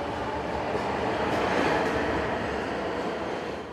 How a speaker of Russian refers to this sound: Ага, через... Через пару минут приходит J-Train.